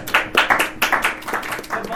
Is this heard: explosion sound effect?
no